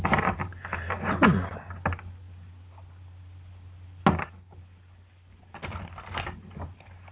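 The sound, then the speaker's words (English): A deck of cards being shuffled for a card reading, in short bursts of papery riffling, with a single sharp snap midway, a quiet pause, then another flurry of shuffling over a low steady hum. “I'm going to sit here and shuffle some cards and get you some insight, too.”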